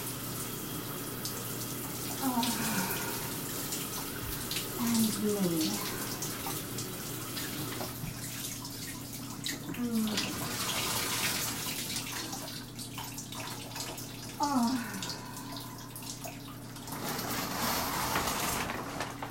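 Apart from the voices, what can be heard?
running shower water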